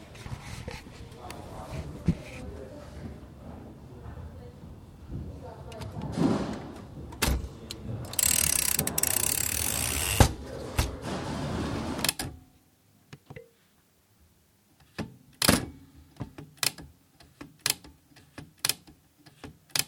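A typewriter mechanism working: a dense, continuous rattle and whir for several seconds, then silence broken by sharp, crisp clacks at irregular intervals, some in quick pairs.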